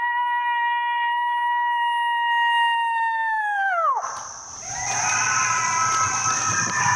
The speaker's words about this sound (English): How many coyotes are out you there? You don't see any, but God, doesn't it just sound like there's a million of them?